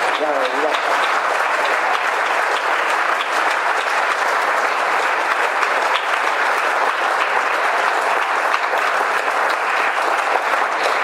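Sustained audience applause, a dense, steady clatter of many hands clapping at an even loudness for about eleven seconds, with no pause or fade.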